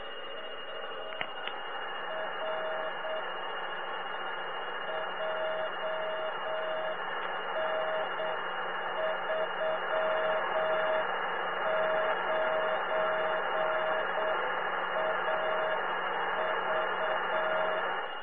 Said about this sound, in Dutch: Nou hoor ik bijvoorbeeld het Luxemburgse baken weer.